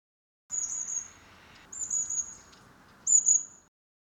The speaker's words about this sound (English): Who's tweeting? 谁在啾啾叫? Let's watch the birds.